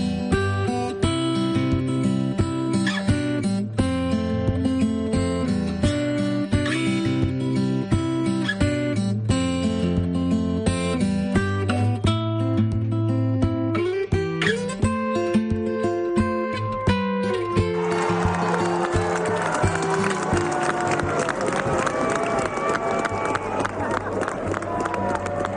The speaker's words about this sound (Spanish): Este es uno de los sonidos que más nos han emocionado este fin de semana. Aplausos al Papa Francisco, que 37 días después de su ingreso, por fin volvíamos a verle. Lo hacíamos desde el balcón de una de las habitaciones del hospital